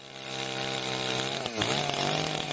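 A chainsaw engine in the forests of the municipality of Istočni Drvar on Klekovača mountain in Bosnia and Herzegovina whines steadily and loudly, its buzzing pitch dipping briefly midway as it bogs down, then climbing back to a sustained high drone. No voices are heard.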